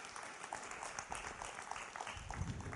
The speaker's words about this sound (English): Isn't that good? Oh, you're going to do a round of applause. They can't hear it, but maybe they can feel it.